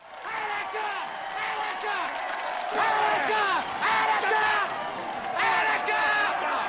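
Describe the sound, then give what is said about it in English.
A large crowd of onlookers in the 1975 crime drama Dog Day Afternoon cheers and shouts for Al Pacino's character in a dense, continuous roar, with many overlapping voices rising in louder swells around the middle and end. “They cheer him because there was sympathy for the inmates in the Attica uprising 4 years earlier.”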